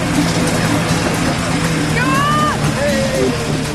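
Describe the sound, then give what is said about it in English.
The engine of a wheat harvesting machine, just started, runs steadily with a loud continuous rumbling drone, and the drive belt is thrown off straight away; a brief high whining squeal rises and then slides downward near the middle. “Finally, the brothers have got one engine started, but immediately it throws off the drive belt.”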